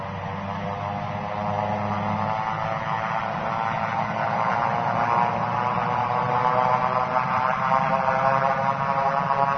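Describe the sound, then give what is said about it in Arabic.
A small airplane's propeller engine drones steadily with a buzzing, humming tone, growing slightly louder and rougher as it approaches. No voices are heard. “يا إلهي، لماذا تطاردني هذه الطائرة الصغيرة؟”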